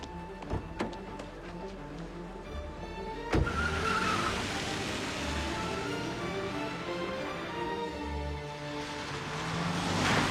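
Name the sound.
car driving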